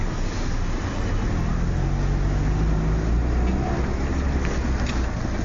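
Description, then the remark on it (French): Car driving over a bumpy, potholed road, heard from inside as a steady, loud low rumble of engine and road noise with faint rattling jolts, no one speaking. “Ça les trous, c'est. Mais il y a une belle suspension quand même!”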